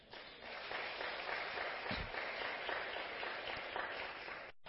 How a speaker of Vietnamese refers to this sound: Nếu điều đó đó là khả năng nằm ở trong tầm tay thì tất cả hãy dâng cao tràng pháo tay để cam kết làm.